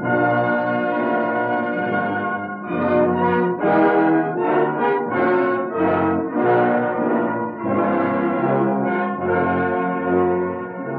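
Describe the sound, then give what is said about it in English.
Bells ring out continuously, overlapping tones sounding in a steady rhythmic pattern with no voices. The ringing is loud and full, rising in bursts after a calmer opening. “I think you can start ringing those bells again.”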